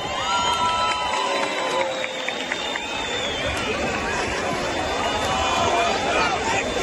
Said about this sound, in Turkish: Ekşileri huzurlarınıza davet ediyorum. Alkışlarınızla.